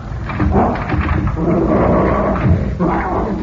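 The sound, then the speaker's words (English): Fred Harlan's dog growls low and steadily, fairly loud, the rough rumble swelling and easing slightly over a few seconds with no voices present. “Seems to be no one here but the dog.”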